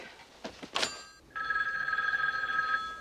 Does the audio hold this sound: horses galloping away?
no